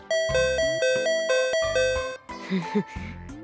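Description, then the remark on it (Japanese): A doorbell rings its two-tone ding-dong chime over and over in quick succession, loud, with a brief burst of voice near the end. “優しさのピンポンがしみるぜ、親友。”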